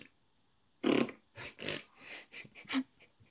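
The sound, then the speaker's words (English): A voice imitates fart noises with a run of about six wet, blown raspberries, fairly loud, the first burst strongest, followed by shorter sputtering blasts. “Let's just do fart noises.”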